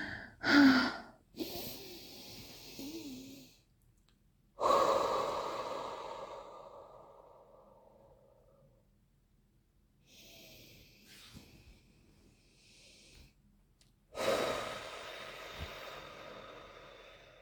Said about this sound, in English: I need a moment. I'll do the breathing exercises.